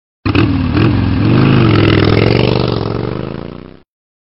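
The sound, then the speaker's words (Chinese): A motorcycle engine revs loudly and roughly as the throttle is twisted, roaring through an exhaust pipe with two holes poked in it. It is a sustained rattling, raspy roar that rises and holds for about three seconds before cutting off. No one speaks. “我嫌摩托车的声音不够霸气，就在排气筒上戳了两个洞，你们听。”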